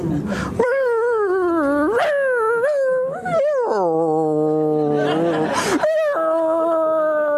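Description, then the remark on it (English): A person imitates a whining dog with a series of high, sliding nasal whimpers and moans, sustained, wavering up and down for several seconds with no other speech. “And did you ever hear a dog whine?”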